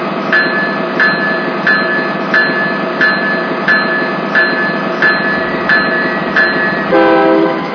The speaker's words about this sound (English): Roger that, Roger. I'm stopping my train.